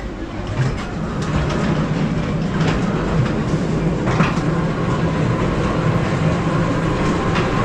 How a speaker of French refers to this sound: Il monta dans le train fantôme et...